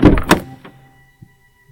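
A car door unlatches and swings open in a driveway: a sharp clunk and rattle, then a small click and a couple of soft, faint thumps as it settles.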